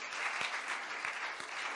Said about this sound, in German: Wisst ihr, euch Lobpreisgruppe, wir sagen euch einfach Danke. Das war so gut heute. Seid ihr mit mir? Lasst uns ihnen einen Applaus geben.